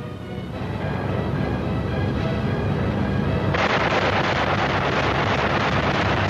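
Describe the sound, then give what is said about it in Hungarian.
Sustained, rapid machine-gun fire aimed at trains, a dense continuous rattle of shots that grows harsher and louder about halfway through, with no voices. “Akkor géppuska tűz a vonatokra.”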